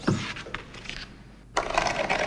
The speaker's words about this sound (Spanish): Una estantería moviéndose.